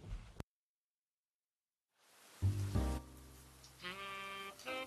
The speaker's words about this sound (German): den trüben Blick auf die regnerische Gasse vor ihm gerichtet, in der das Wasser seit Stunden durch die verrosteten Regenrinnen rauschte und sich prasselnd in kleinen Bächen sammelte